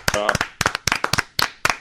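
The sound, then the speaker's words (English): A short burst of hand clapping given as a sitting ovation for the retiring Brian Campbell: a dozen or so sharp, uneven claps in quick clusters, with a voice whooping over the first few. “Here's your sitting ovation.”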